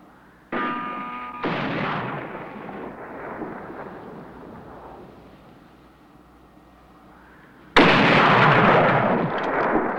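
Sharp rifle shots crack out twice in quick succession, each trailing off into a long rumbling decay, followed several seconds later by a much louder, harsher blast from a rifle with a telescopic sight that lingers to the end.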